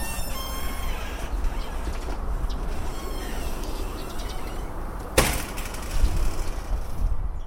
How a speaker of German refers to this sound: In der Mitte ein schlichter Hof. Die Geräusche der lärmenden Großstadt sind hier gedämpft. Vogelgezwitscher erfüllt den Hof